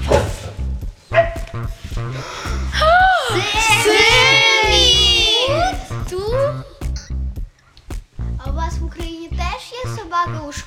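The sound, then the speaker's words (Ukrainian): A dog barks in short, loud bursts, with a stretch of drawn-out, wavering yowls in the middle, mixed with people's voices. “В нас в Україні собаки не дозволені в школах.”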